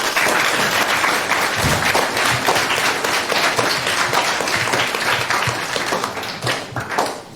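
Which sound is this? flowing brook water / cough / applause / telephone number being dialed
applause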